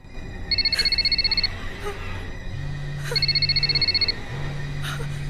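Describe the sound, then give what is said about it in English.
A telephone on a desk rings in two trilling bursts separated by a pause, clear, over a low steady hum. “It's her phone on the desk.”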